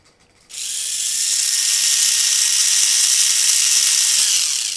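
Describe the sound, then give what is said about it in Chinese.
A mini 4WD toy car motor starts after a brief quiet moment and whirs steadily, a loud, high-pitched, buzzing whine that holds at an even level until the end, with no voices. “然之后会不停咁循环、循环再循环嘅一个热潮， 嗯， 就系、是、四驱车啦。”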